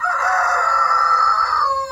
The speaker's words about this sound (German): Der wurde auch am unangenehmsten bewertet, während also halt dieser Hahn hier auch unangenehm und sehr lästig ist, aber weniger rau, aber dafür mehr im Frequenzbereich, wo es im Ohr mehr wehtut. Wir lernen also, kein Hahnkrähen ist wie das andere.